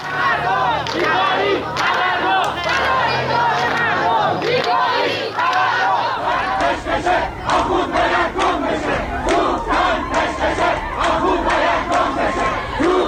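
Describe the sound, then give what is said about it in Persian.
A large street protest crowd in Isfahan, demonstrating against living conditions, chants loudly and continuously, many voices shouting in a rough rhythm with sharp rising cries, a low hum underneath fading partway through. “روز سه‌شنبه گروهی از مردم اصفهان نیز در اعتراض به وضعیت معیشتی در خیابان تظاهرات اعتراضی برگزار کردند.”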